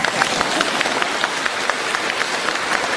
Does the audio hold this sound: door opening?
no